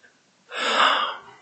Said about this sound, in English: When I get a good sneeze coming, you just can't get it. Now, you get to be my age, that's one of the simple joys in life.